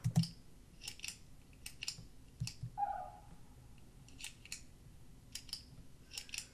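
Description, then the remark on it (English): A ballpoint pen being clicked repeatedly, sharp little clicks in irregular bursts, some in quick pairs, fairly quiet, with a brief faint squeak partway through and no talking. “It's a pen. It's a pen clicking, right?”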